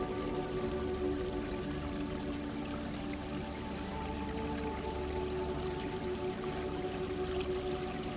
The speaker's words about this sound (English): Water flowing over rocks and making such sweet sounds. That white noise that just brings us deeper into relaxation.